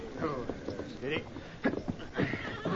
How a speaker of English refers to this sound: And here's the horse that carried him.